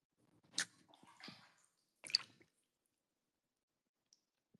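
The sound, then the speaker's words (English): A bathtub automatically adding more hot water: two short watery gushes and gurgles, separated by a soft sloshing sound, then near silence with a couple of faint drips. No one speaks. “Oh no, my bathtub is adding more hot water.”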